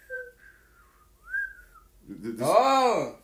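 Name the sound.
attempted whistling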